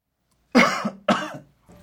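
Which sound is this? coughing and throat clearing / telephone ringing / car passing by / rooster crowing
coughing and throat clearing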